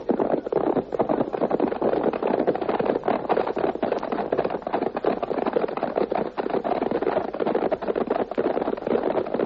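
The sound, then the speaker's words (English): A captain's horse gallops away, its hooves in a rapid, continuous drumming that stays fairly loud and steady for the whole stretch, with no voices over it. “Your horse, Captain. Now, my friend, may heaven guide you. Forward, hey!”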